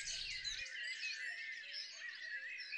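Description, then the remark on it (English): A dense, continuous chatter of starling calls, with many overlapping whistles, clicks and squeaky trills blending into a busy flock sound that stays steady throughout. “Starlings, at first glance, are a plain black monochrome little bird.”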